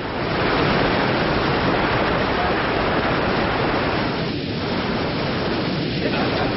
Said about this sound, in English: And the Watson Ferris Lend-Lease ship hits the water with a smack for victory for the Allies. The Ferris is creating a huge wave as it plows across the Hewitt Slip.